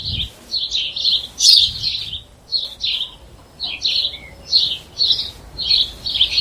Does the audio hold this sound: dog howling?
no